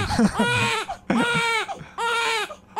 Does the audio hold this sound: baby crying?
yes